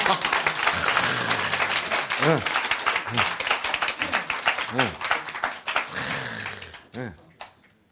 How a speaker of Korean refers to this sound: 와, 박수. 네.